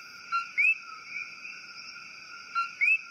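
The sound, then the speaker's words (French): Two clear calls of a male Eleutherodactylus coqui frog, each a short flat "co" followed by a rising whistled "qui," about two seconds apart over a steady, shrill night chorus of insects and frogs. “Je vous disais que les grenouilles Eleutherodactylus coqui sont célèbres pour les chants des messieurs grenouilles, ces chants de troubadours lancés dans la nuit qui tentent nuit après nuit de séduire leurs belles.”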